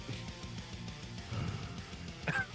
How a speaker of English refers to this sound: The big yawn. Perfect timing.